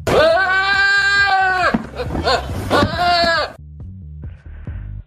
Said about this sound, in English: That is a sorry sounding Billy Goat. It is a Billy Goat. You're absolutely right. Yes. Probably looking for food.